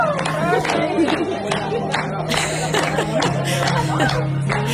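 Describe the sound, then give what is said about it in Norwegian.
Scattered, irregular hand claps from other guests around the restaurant ring out over a busy murmur of crowd chatter, with a steady low hum running underneath throughout. “Og det er ikke vi som klapper, det er andre rundt.”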